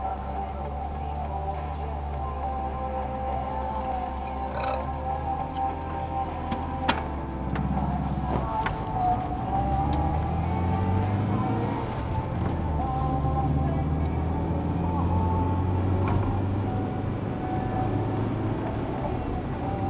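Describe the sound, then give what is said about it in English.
A car drives steadily along a road, its engine and tire rumble loud and continuous throughout, with a few faint clicks and rattles but no distinct passing swell. “This car there. We don't usually overtake on the inside.”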